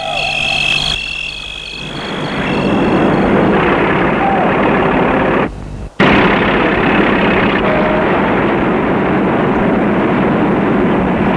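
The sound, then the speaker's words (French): A man starts his truck: the heavy engine turns over and settles into a loud, steady rumble, running continuously with only a brief break partway through, with no voices. “Et l'homme met son camion en route.”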